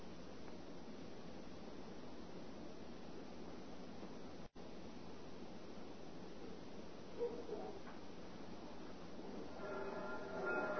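A train rumbles steadily along the rails in a continuous, dense roar, broken by a split-second dropout midway, with faint higher squeals creeping in toward the end. No one speaks.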